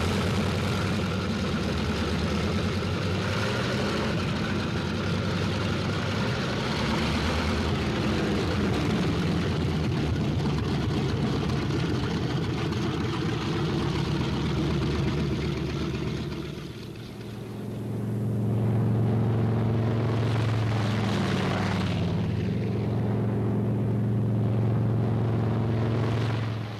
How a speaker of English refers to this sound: On the field, planes warm up. It's takeoff time for the Thunderbolts.